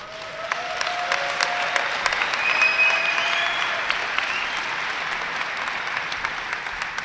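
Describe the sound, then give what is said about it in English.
A crowd applauds steadily for about seven seconds, a dense, even wash of clapping with a few whistles cutting through near the start, holding at a moderate level throughout. “And I thank you for applauding.”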